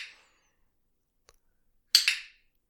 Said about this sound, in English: Click the clicker and then hand the dog a treat. So it's going to sound more like this.